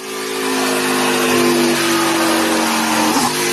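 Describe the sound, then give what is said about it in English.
A car of around 900 horsepower revs hard on a dynamometer measuring power at the rear wheels, its steady harmonic engine drone climbing in pitch, then briefly wavering near the end as it holds near full throttle. “I'd like to see what that thing's pulling to the rear wheels on the dyno over there.”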